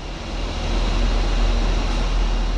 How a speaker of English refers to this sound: That's the exhaust from one of Pittsburgh's last remaining steel mills.